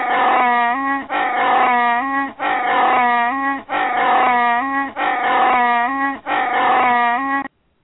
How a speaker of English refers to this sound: Well, good luck finding that on the soundboard. That was a goat.